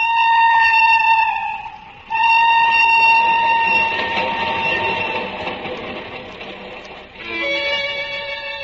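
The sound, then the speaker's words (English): A train sounds loud, with long, steady horn-like blasts broken by two short pauses, while a rushing mechanical rumble swells underneath. No one speaks. “I dressed and rode into the village where I caught a morning train for Moscow.”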